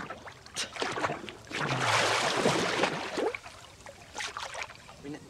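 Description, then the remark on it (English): Water splashes and sloshes, a swell of churning around the middle as someone climbs out of a swimming pool, then settles into lighter drips and small splashes. “gets out of the pool.”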